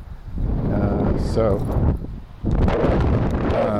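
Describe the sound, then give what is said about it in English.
Strong wind buffets the microphone in loud, rumbling gusts, dropping briefly before surging back just as hard; a faint voice seems to murmur underneath the roar. “I'm gonna turn this off. It's too windy.”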